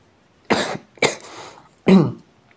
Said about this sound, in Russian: Блядь, надо... Какое-то лекарство, блядь, этот кашель ебучий. Чем его законтрить, блядь?